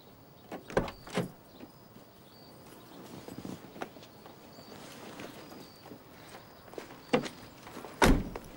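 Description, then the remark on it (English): A few sharp clunks of a red car's door opening and shutting as the car pulls up into a driveway and a woman gets out, with quieter shuffling and scraping between them and a final solid thud near the end; no one speaks. “As he comes out of the front door, a red car pulls up into the drive. A woman with long blonde hair gets out, carrying a box of hangers and a shoulder bag.”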